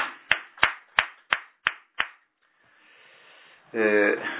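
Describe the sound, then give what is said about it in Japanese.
Six sharp, evenly spaced claps ring out in a steady rhythm as applause for a woman's 54th birthday, then a short hush follows before a voice starts speaking. “満54歳の誕生日を迎えられましたので、盛大な拍手でお願いします。”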